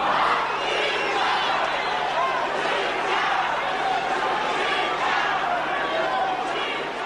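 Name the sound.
crowd jeering and chanting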